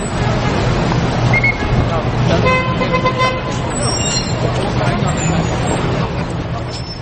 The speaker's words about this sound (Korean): 여전히 많은 사람들로 붐비는 거리, 끊이지 않는 교통체증, 버스에서 내리는 수많은 관광객들. 뉴욕시는 10년 전과 크게 달라진 것이 없어 보인다.